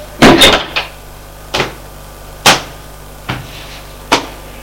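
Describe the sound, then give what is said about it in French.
A door in an apartment, opposite the front entrance door and leading to a living room, is opened: a loud opening clunk, then several sharp knocks and latch clicks spaced irregularly, with quiet room tone between them and no talking. “Allons ouvrir une porte qui est en face de la porte d'entrée de l'appartement.”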